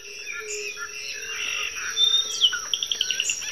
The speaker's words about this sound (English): This is a recording that we took in the morning. It's a morning chorus. And one of the things that's notable about morning choruses is one of the times during the day where you hear the most activity.